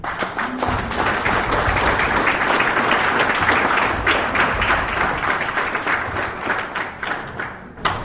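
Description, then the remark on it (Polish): Sustained applause from a sizable crowd at a Gmina Zamość meeting reviewing the past year, for the board members and organisers of five days of events. Many hands clap densely and steadily for several seconds before tapering slightly near the end. “Dla wszystkich członków zarządu, dla tych, którzy angażowali się w organizację naszych 5 dni akcji w ubiegłym roku, ogromna, ogromna brawa.”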